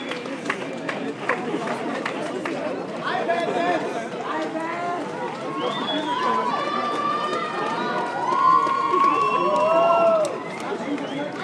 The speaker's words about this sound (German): Allerdings kommt der meiste Jubel von den Apple Store Leuten noch. Die Tür ist noch verschlossen, jeden Moment geht's los.